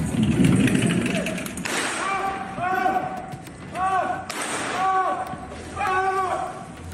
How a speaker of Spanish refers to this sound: Disparos, gritos, forcejeo, al parecer por una maleta. Los hechos ocurrieron algunos minutos después de la medianoche del martes en la zona de Los Naranjos, en el lujoso barrio de Nueva Andalucía.